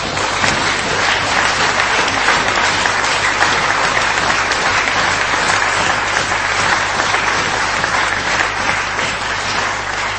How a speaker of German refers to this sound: Ja, Applaus wäre das auch wert.